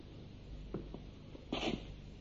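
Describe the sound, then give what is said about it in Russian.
A woman sneezes once, sharply, after a couple of quick, faint intakes of breath, heard fairly quietly over a low, steady background hum with no talking. “Будь здорова.”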